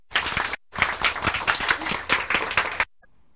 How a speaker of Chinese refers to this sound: 我们现在有用热烈的掌声邀请